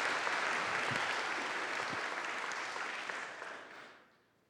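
An audience claps steadily for a woman who came up on stage, in a dense, even wash of applause that holds for several seconds, then tapers off and fades out at the end. No one speaks over it.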